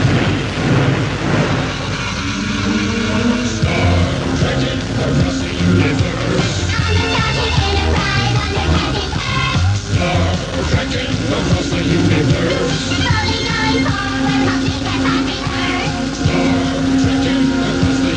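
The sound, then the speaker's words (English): A loud, dense 1987 novelty pop record runs throughout, packed with overlapping voices, a rumbling engine-like drone and booming sound effects layered over the music. “The record itself is a bit silly, I know, but the mechanics of the thing, well, it must have been a marvellous thing producing a record like that, all those voices and noises.”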